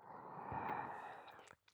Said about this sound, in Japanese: そんなの好きだからに決まっておろうに。こうして耳をなめたり、